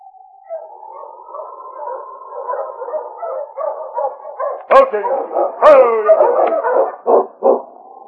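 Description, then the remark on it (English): Sergeant Preston's tired sled dog team, arriving in the snow at the settlement of Cross's Landing, whines and yips together in a steady chorus, then breaks into a few sharp, loud barks before settling back into excited yelping. “It was over a week later that Sergeant Preston drove his tired dog team into the small settlement called Cross's Landing.”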